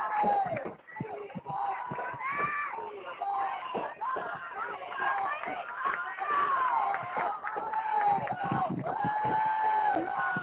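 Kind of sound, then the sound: crowd, stadium crowd cheering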